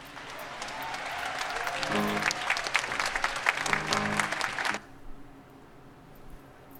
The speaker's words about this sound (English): As they're applauding, I'd like to take a minute to thank